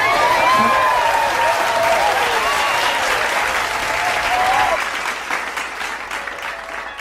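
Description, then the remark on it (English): A steady round of clapping from a group, dense and crackly, with some whooping voices mixed in; it holds strong for a few seconds, then thins out and fades quieter toward the end. “Round of applause for us getting a bag.”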